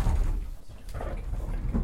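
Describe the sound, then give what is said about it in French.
A sliding bathroom door off a small bedroom rolls along its track, a steady low rumbling scrape lasting a couple of seconds with a slight bump near the end. “La carte de la salle de bain qui coulisse.”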